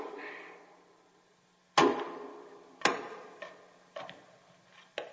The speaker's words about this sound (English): The weight and rhythm of the maul swinging in my hands feels good, like a pendulum, like I've become some sort of organic clock. I rip open time with the thruck of the heavy iron wedge, dividing a pine log into halves